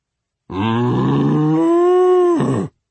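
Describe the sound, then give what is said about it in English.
A cow lets out a single loud, drawn-out moo lasting about two seconds. The low, throaty tone rises in pitch partway through, holds steady, then cuts off abruptly, with no voices. “The cow lowed.”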